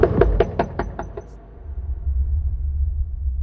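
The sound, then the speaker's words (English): A quick run of about seven firm knocks on a house's front door, evenly spaced, then silence apart from a low outdoor rumble of wind or traffic. “I mean, surely if there's any answers his door, he can't be that much of a recluse. Maybe he's just not in.”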